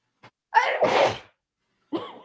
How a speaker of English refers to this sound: I might sneeze because apparently I'm having a sneezing fit, but you can keep talking.